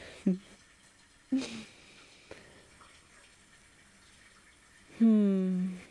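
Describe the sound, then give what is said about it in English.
A steady, soft hiss of shower water runs throughout, with a few short voiced sounds from someone breaking over it, the last one longer and louder. “The water's perfect.”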